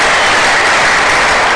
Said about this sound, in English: Before you're seated, can we give the Lord another hand clap of praise? Hallelujah. We praise your holy name.